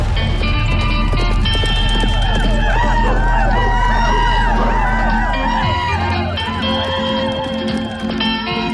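Loud, fast hooves clip-clop in a steady running rhythm, while a horse neighs and whinnies with rising and falling cries over a low rumbling background.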